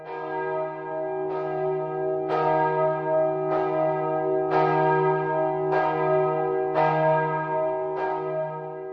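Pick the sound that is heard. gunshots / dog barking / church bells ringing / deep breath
church bells ringing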